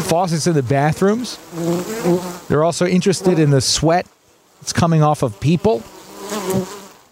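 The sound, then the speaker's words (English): A steady swarm of honeybees buzzes, crowding around condensation from air conditioners and bathroom faucets, a continuous hum running beneath a person talking, with a short pause in the speech midway. “These are really just your usual honeybees who are trying to survive, crowding around the condensation from air conditioners and the faucets in the bathroom.”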